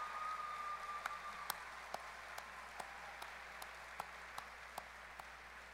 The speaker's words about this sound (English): Before we begin, I invite our graduates to take a moment to offer their parents a round of applause in gratitude for everything that they've done to make this day possible.